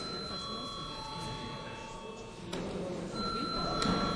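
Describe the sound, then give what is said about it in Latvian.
A parliament chamber bell rings before deputies vote on sending a bill to committee, with a steady, high electric tone that holds for several seconds, briefly thinning then returning, over a low murmur of background noise. “Lūdzu, zvanu.”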